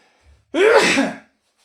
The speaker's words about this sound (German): Ich muss mal kurz niesen, Moment.